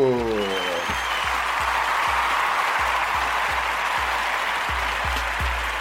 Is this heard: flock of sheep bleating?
no